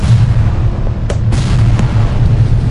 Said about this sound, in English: The tugs a half mile on either side of them fired their mortars as well.